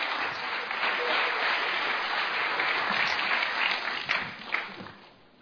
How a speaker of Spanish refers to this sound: Hermano, vamos a recibirla con un cariñoso aplauso, por favor.